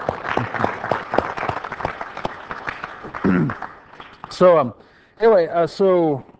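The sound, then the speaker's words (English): An audience applauds with a quick, dense patter of claps for about three seconds. The clapping fades as several loud, pitch-sliding voices call out in short bursts. “A round of applause.”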